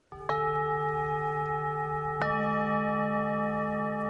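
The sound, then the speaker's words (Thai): Two soft, resonant bell-like chime strikes played as ambient sound in a meditation-like room with beds at Cafe Recharge, one at the start and another about two seconds later, each leaving a long, sustained ringing tone that overlaps into a calm, continuous shimmer with no talking. “ไปดูภาพจากนักข่าวของเรานะครับเหมือนห้องนั่งสมาธิแต่ว่ามีเตียงและมีเสียงสร้างบรรยากาศด้วยเป็นเสียงคล้ายๆเสียงระฆังมาฟังกันครับ”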